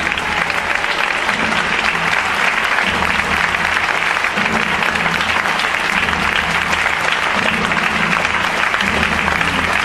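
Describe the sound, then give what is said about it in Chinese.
An audience claps continuously for the whole stretch, a loud, dense, unbroken wash of hand claps with no pauses and no clear individual beats standing out. “现在因为神的荣耀要降下来，我们的拍掌不间断，因为神的荣耀要降下来，我们的拍掌不间断，因为神的荣耀要降下来，因为神的荣耀要降下来。”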